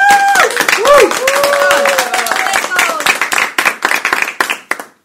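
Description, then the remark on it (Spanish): A crowd breaks into loud, dense applause with cheering voices over it at first, then the clapping thins to scattered claps and stops. The applause celebrates a school's intermediate boys' basketball team winning the Liga de los Colegios Particulares competition. “Aplausos para todos y todas.”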